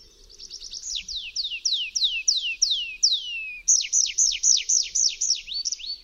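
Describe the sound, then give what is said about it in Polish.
A tree pipit sings a strophe of rapid, repeated descending whistled notes, first a smooth accelerating series, then a shift to brighter, sharper chirps in a steady rhythm, clear with no talking. “W jego śpiewie występują dwa typy zwrotek. Krótka i długa.”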